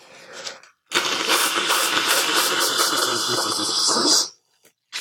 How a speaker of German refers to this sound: Ich putze mir nochmal die Nase. Das klingt jetzt für euch sehr schön. Passt auf. Das ist noch besser als das mit den Karten.